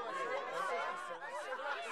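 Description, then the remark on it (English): Dense crowd chatter used as a sound-design layer for a bustling Victorian street scene, many overlapping voices murmuring at once in a steady, busy wash with a few snickers and chuckles poking through, no single speaker standing out. “Throw in some crowds.”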